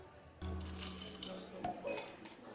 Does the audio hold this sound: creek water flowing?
no